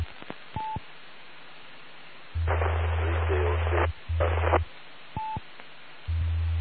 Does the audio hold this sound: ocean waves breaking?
no